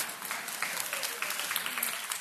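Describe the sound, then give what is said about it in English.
An audience bursts into steady applause at news that a donor heart has come in for a hospitalized missionary awaiting heart transplant surgery, many hands clapping together in a dense, continuous patter at an even, moderately loud level. “Just heard this morning that a heart has just come in and he may be getting, isn't that great? Clap for that.”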